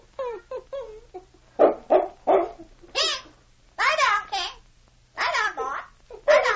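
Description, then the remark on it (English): A parrot shouts garbled, speech-like commands in a series of loud bursts with short pauses between them, mimicking a human voice giving orders to a dog named King. “Remember when I taught him to shout orders to King the way you do?”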